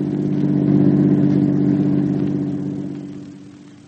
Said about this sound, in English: Johnny, did you see who was in that car that just passed?